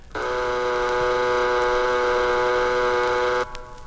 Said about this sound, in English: This next track is called The Submarine. A submarine offers a unique mode of travel to Port Said. That's if we make it. Stand by to dive.